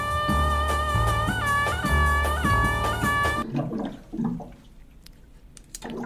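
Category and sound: household object, water sloshing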